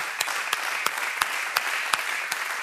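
The audience of Sala A at a sold-out theatre evening broadcast on Radio 3 applauding steadily and warmly, a dense wash of many hands clapping with a few sharper claps standing out at irregular moments; no voices.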